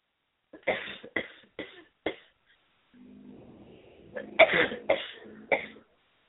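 coughing

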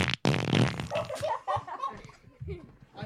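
fart

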